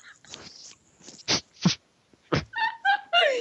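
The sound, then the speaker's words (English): A puppy whimpers, giving a few short, high-pitched whining yips in quick succession after some brief scuffling noises, with no one talking. “I have a baby dog here with me.”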